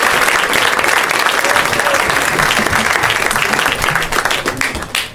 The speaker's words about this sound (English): Yay, yeah. Keep clapping loudly into my ear.